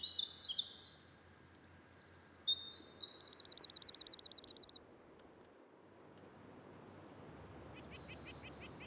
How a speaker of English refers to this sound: If you stepped into the spruce fir forests of Acadia National Park early last summer, these are some of the bird songs you might be greeted with.